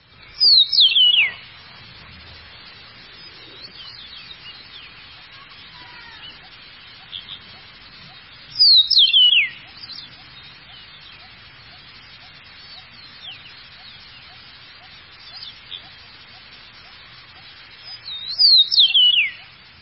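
An eastern meadowlark sings clear, sweet whistled phrases that slur downward, repeated three times at spaced intervals with a fainter one between, against a quiet, slightly hissy background.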